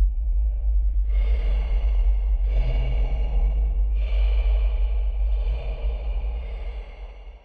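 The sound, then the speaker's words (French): Heavy, deep breathing right beside someone drifting off to sleep, with an icy breath: three slow, drawn-out breaths, each a breathy rush of air about a second and a half apart, over a steady low rumble. “Parfois, juste avant de sombrer dans le sommeil, il avait l'impression d'entendre une respiration lourde et profonde juste à côté de lui, et un souffle glacé.”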